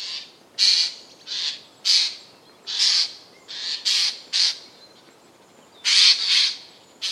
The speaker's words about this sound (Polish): Sujki, brunatno-szare, większe ptaki z rodziny krukowatych z charakterystycznym niebieskim lusterkiem na skrzydle.